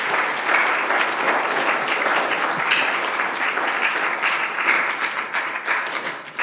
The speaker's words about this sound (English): We need more dads like the men that are standing up represented here this morning. Can we give our fathers this morning a round of applause and appreciation?